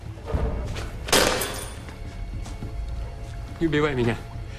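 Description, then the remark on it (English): In a scene from The Bourne Ultimatum, a single heavy stamp lands with a sharp, crunching thud as Bourne smashes a police radio that a cop has put on a bathroom floor; moments later a short, strained voice sound rises briefly over low background rumble. “Bourne stamps on it.”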